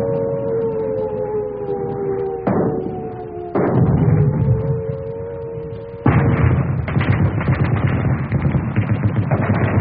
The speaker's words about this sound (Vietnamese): Hoàn tỉnh khỏi một cơn mưa khi những tiếng nổ rền như bắt rang của súng đạn, những tiếng bọp bọp của trung pháo, tiếng cùng cùng của đại liên, tiếng cùng ục của đại pháo. Tiếng trung pháo nghe ngọt nhất.